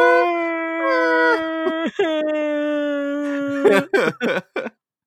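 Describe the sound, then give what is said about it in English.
A voice imitates a cat crying at a windowsill with one long, sustained wailing tone that wavers and briefly breaks midway, then trails off into a few short, rough bursts. “And then he'll just start crying at the windowsill. Just like a cat, just there like...”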